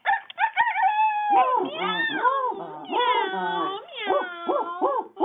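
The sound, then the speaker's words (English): A person imitates a barnyard chorus: a drawn-out braying call, swooping meows, a strained crow, then a quick run of short barking yelps, all voiced loudly and close up with no other talk. “The donkey brayed, the dog barked, the cat meowed, and the rooster screamed.”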